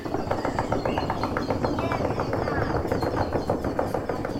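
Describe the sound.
A group of people rapidly drumming and tapping in imitation of a woodpecker, a dense, loud, continuous rattle of knocks lasting throughout, with a few voices mixed in.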